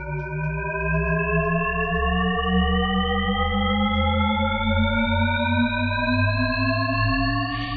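A Shepard tone illusion: stacked, evenly spaced tones glide steadily upward in pitch together, creating an endlessly rising sound at constant loudness, with no voices.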